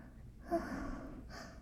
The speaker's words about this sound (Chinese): 从我嘴里呼出去的每一口喘息，热热的，都在让你变得更加的舒服。